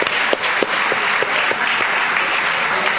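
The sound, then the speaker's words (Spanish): Steady audience applause for journalist Julia Mengolini fills the whole stretch, a dense wash of many hands clapping at an even loudness, with a few sharper individual claps popping out at regular intervals. “Un aplauso para Julia Mengolini, caramba.”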